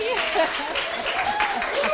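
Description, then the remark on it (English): A small group of people in the room of the Radio City Talk radio show clapping steadily to sound like a live studio audience, the applause dense and continuous throughout, with a faint voice or cheer rising over the clapping. “I think there are enough people now in the room that if we said a round of applause”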